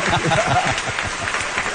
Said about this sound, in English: Nice applause track. How about that? It's like Happy Days.